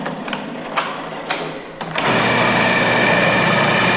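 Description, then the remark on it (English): A few sharp clicks and knocks, then a food processor motor kicks in with a steady, loud, high-pitched whir that keeps running to the end while it blends a dip sprinkled with cayenne. “And then food processor.”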